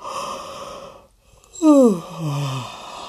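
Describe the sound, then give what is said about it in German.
After a short pause, a tired woman lets out a single long, voiced yawn, fairly loud, its pitch sliding steadily downward before trailing off into a soft sigh. “Sie gähnt und geht ins Badezimmer.”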